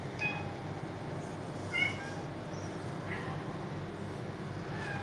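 A cat meows several times in short, high-pitched calls spaced a second or so apart, one noticeably louder than the rest, over a constant low rumbling background.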